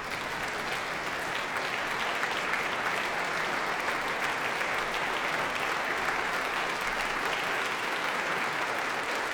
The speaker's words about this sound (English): And that applause is for Oliver Nusson coming to the front of the platform here at Snape Walton's Concert Hall to conduct members of the Birmingham Contemporary Music Group in the concert suite that he compiled with Colin Matthews in 1983